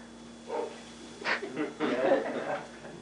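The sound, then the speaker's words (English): A dog named Alf barks a few times from downstairs, the muffled barks coming in short bursts over about three seconds. “My dog downstairs, they're part of the Bible study. He barked right at the right point.”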